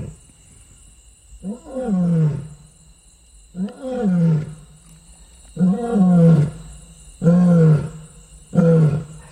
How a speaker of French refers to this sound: Alors on va écouter le lion.